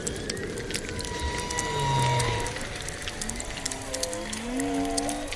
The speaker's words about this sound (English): So whale song is the most obvious example of this. Hunters have hunted some species almost to extinction